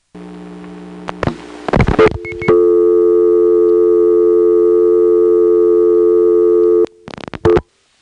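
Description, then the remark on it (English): Telephone line sounds: a few clicks and short tone bursts, then a loud, steady new dial tone holding for several seconds before more quick clicks and bursts of dialing the digit 3 cut it off. “So now let's get a new dial tone and dial a 3.”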